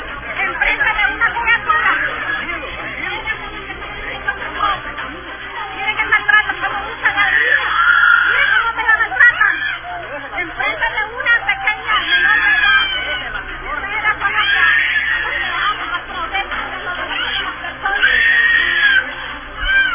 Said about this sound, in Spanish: Ahí manda el video, crueldad, unos niños gritando ahí. Vamos a poner el audio. Ahí está un soldado que tiene a un joven en el piso y la mamá defendiéndolo y el niño gritando.